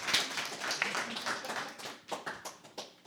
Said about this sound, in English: And just this past Sunday, three more volunteers want to sign up. 2 more people want to be partners. Yeah, we can clap for that. We can clap a little bit.